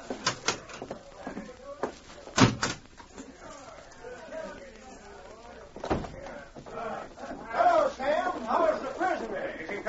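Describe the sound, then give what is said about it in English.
A cell door is shut and locked, slamming with a few sharp clanks of the lock, followed by another heavy bang, while a crowd of men's voices murmurs and grows louder in the background. “I'd better get out of here and lock this cell door.”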